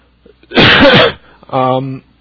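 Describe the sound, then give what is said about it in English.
A single loud, harsh cough, part of a coughing attack during a live radio broadcast, bursts out, followed a moment later by a short strained voiced sound, like a groan or a throat-clearing exhale. “Okay, note to self, edit out coughing attack and water drinking.”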